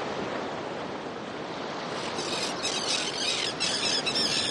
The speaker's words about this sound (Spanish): Uy, qué sonido de gaviotas, por favor, qué sonido de gaviotas que se meten en el estudio.